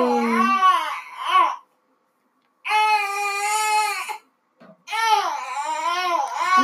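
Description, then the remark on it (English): A baby boy cries and fusses in three bursts of strained, high-pitched wailing separated by short pauses, loud, with no talking; he needs milk and to be held. “Sorry, screaming babies require milk, apparently, and held.”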